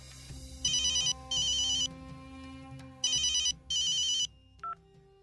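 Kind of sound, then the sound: signal or alarm, telephone ringing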